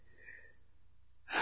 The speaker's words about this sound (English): Listen to the sound of your breathing.